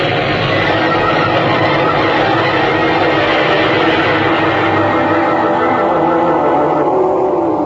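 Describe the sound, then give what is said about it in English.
A massive grinding, shattering rumble as a huge gash widens in the surface of the planet Utopia and the planet tears apart: a dense, loud, continuous roar with crackling texture that holds steady for several seconds, with no voices. “Faster and faster, with great grinding, shattering rumbles, the huge gash in Utopia's surface widened further and still further.”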